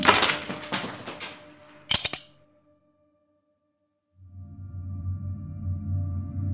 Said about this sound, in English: picks up the nutcracker, and cracks the last ice cube.